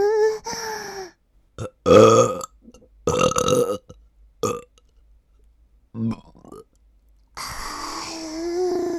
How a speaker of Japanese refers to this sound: ゲップのぬくもりでおちんぽ様に愛を捧げますの。いく、ゲップ行きますから。